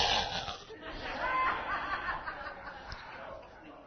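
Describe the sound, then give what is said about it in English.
A voice imitates the snoring of a passenger sleeping during a car drive, with rough, raspy breathing sounds that run continuously for a few seconds, loud and slightly uneven, edging toward a stifled chuckle. “Several times during this drive, Pastor Vicky was snoring.”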